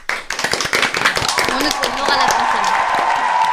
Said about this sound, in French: Oh, joli. Une bonne réponse pour le groupe du fond. Applaudissements.